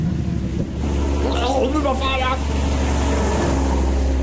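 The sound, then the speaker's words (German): A steady, loud rumble of road traffic drones throughout, with a low engine hum and a few brief higher tonal sweeps rising over the continuous noise. “Ja, und was sagt denn der Verkehr? Ah, da ist er schon.”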